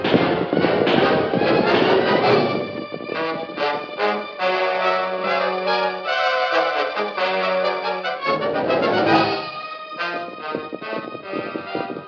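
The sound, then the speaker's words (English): Galloping horses' hoofbeats pound in a fast, steady rhythm at night as the horses carry three riders to a camp in an arroyo, mixed with loud dramatic orchestral music that swells and holds sustained chords throughout. “Thundering in the night, the powerful horses carried the Lone Ranger, Jeff, and Tonto to a well-concealed camp in an arroyo”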